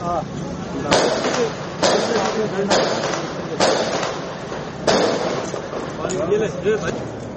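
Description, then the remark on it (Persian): Sharp bangs of gunfire and explosions ring out about once a second, five or six loud reports over a noisy background with voices mixed underneath, during a late-Friday attack by suicide attackers on the central police headquarters in Karachi, Pakistan. “صدای انفجار و تیراندازی هم شنیده شده.”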